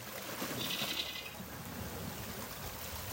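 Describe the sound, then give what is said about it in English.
Gentle ocean water at low tide laps and trickles steadily around a rock, a soft continuous wash with brief faint high chirps near the start and no voices. “And as I sit here on the rock, surrounded by the eagles and the kingfishers and the ocean, I realize just how much there is to listen to in nature.”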